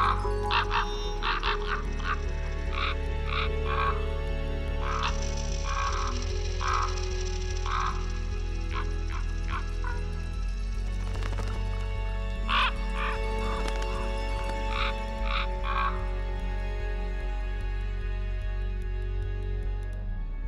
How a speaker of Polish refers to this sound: To kruki z filmu przyrodniczego Dziobem i Pazurem.